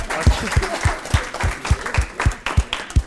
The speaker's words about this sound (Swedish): Ska vi ge dig en applåd? Ja, tack.